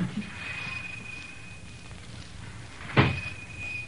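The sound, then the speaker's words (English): A door of a store shuts with a single solid thump as someone is shoved out of it, after a few seconds of quiet, with a faint steady whine in the background and no talking. “For goodness sake, Abner, you oughtn't to shove a body out of the door that way.”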